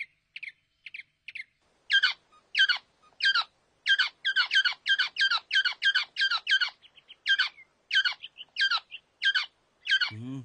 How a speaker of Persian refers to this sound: درسته، اما نفهمیدین که اون پرنده مثل بقیه موجودات زنده بچهشو دوست داره. پرنده بی‌نوا الان در رنج داره عذاب میکشه.